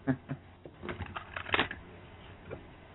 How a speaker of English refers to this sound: All right. We're shuffling the cards as we speak.